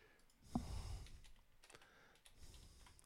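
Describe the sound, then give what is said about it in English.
Computer keyboard typing and mouse clicks as someone fetches a link to a news article and copies it into TeamSpeak, a scattered run of light plastic taps with a sharper click near the start, quiet with no one speaking. “Clicking random shit.”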